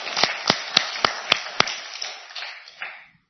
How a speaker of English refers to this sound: Yeah, it's worth applauding. Thank you, Jesus.